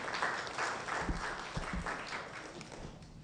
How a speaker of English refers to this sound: Can we give her a round of applause and welcome her up?